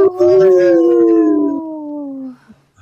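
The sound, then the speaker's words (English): A person imitates a wolf howl: one long, sustained, wavering howl that slowly slides downward in pitch, loud, lasting over two seconds before trailing off into quiet. “I'm a hot, tired wolf howler.”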